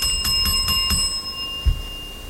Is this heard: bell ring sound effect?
yes